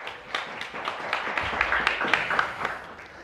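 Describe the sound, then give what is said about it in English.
A round of audience applause welcoming a radio presenter who is being introduced, a dense patter of many hands clapping at moderate volume, swelling slightly in the middle and easing off toward the end, with no one speaking over it. “Round of applause.”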